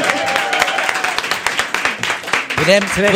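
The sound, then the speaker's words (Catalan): A small group claps for three seated guests in quick, uneven bursts for about three seconds, the sharp slaps fairly loud, while voices talk and laugh over the applause toward the end. “Avui tenim tres persones aquí assegudes i només per això ja se'ls hauria d'aplaudir.”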